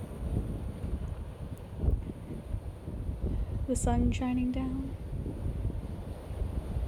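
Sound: waves crashing against rocks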